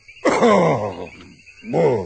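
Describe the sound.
A man's voice mimics a lion's roar, imitating the animals that come to the water hole: a loud, throaty growl that slides downward in pitch, a brief pause, then a second rough roar starting up.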